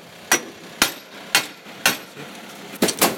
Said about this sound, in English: Walking back up the yard, the police officers are now trying to break into another shed, an even larger one than the one we've been in. They're using an axe and a hammer and other tools to try and break down the door.